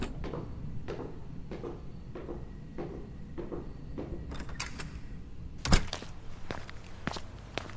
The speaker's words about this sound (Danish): Jeg går. Knaller døren i efter mig.